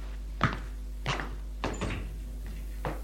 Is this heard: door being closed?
yes